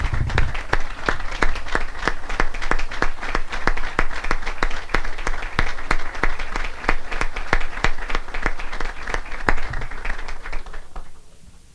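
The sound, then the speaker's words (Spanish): Sustained applause from a crowd for standing representatives of nonprofit organizations from Las Piedras and Isabela, dense and steady for about eleven seconds with sharp individual claps standing out, then thinning and fading at the end. No one speaks over it. “Yo le pido a esos compañeros que están aquí en representación de las entidades sin fines de lucro de Las Piedras y de Isabela que se pongan de pie y reciban un aplauso de todos nosotros.”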